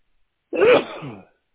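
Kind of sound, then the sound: human body sound, sneeze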